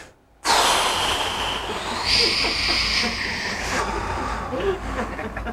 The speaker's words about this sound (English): Now watch this now. If a person is depressed, you ever heard somebody breathe like this? They go like this. They take a big gasp, and then they have this long exhalation.